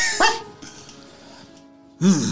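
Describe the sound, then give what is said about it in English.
A dog barks twice from behind a door, a sharp loud bark followed by a second one about two seconds later, with a faint low hum filling the pause between them. “There's a dog barking from the door directly in front of you, from behind the door.”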